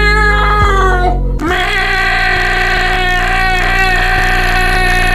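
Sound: kitten meowing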